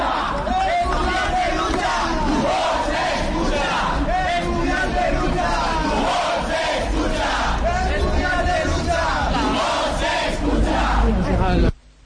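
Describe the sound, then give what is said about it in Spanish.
A crowd of protesting union-affiliated students, from groups such as Aldatu, shouting chants in unison, loud and continuous, with rising and falling voices blending into a dense roar for about twelve seconds before cutting off abruptly. “estaba también Herricoa, estaba también el Aldatu, que eran precisamente los que más ruido estaban metiendo, una serie de estudiantes sindicados que gritaban más o menos como...”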